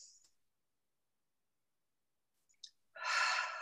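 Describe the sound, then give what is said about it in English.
Someone breathes: a faint, brief hiss of air drawn in through the nose at the start, a long silent pause, then a loud, airy, slow exhale through slightly parted lips like a sigh that carries to the end. “Breathing in through the nose, if your nose is clear and you can breathe in through the nose, that's the best.”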